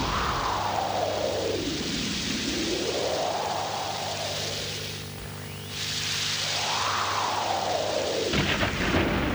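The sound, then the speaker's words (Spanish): A steady, loud thunderstorm rumble with a rushing, noisy roar that swells and sweeps, easing briefly midway before building again, with no voices. “Además de esta tormenta, suele sonar una bonita sintonía de jazz melancólico, de la cual hasta dentro de unos minutos no dispondré.”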